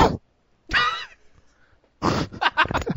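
Loud coughing right into a microphone: a short burst, then a harsher voiced cough, and after a pause a cluster of rapid, rough coughing bursts.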